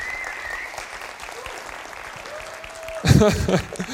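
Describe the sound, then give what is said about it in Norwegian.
Steady applause from an audience at a presentation on sharing culture, dense overlapping claps with a faint whistling tone, then rising louder near the end as voices cheer over the clapping. “Jeg forventer egentlig litt applaus nå. Kan dere klappe?”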